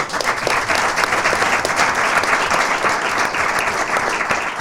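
A small round of applause: steady, dense hand clapping from a modest group, sustained at an even level for several seconds with no talking over it.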